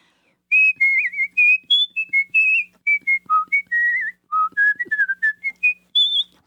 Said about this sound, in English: Can you whistle on command? Would you whistle a little? Sure.